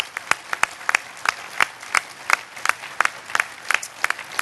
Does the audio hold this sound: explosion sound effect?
no